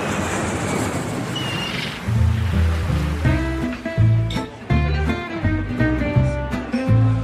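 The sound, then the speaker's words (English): Steady hiss of Mediterranean Sea waves washing onto the shore of a seaside town, Cannes, France, soon joined by a rhythmic tune whose bright notes play over the continuing surf. “I'm going to take you to France, to a pretty little seaside town on the Mediterranean.”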